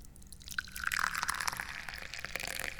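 Hot Da Hong Pao tea pours steadily into a cup, a continuous splashing trickle whose tone rises slightly as the cup fills, with no talking over it.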